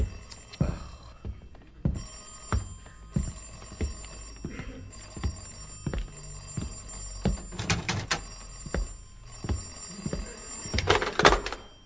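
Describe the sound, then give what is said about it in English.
An old-fashioned telephone bell rings on and off with a steady, repeating rhythm, fairly loud, along with some knocks and thumps of movement. No one speaks. “I mean, I'll have that phone brought up in the bedroom next week.”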